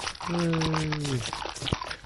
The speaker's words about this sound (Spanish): Ah, cómo me gusta escuchar ese perrito tomando agua. Qué bárbaro. Qué bonito.